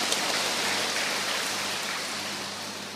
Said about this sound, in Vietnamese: Một tràng pháo tay để gặp gỡ người anh em này.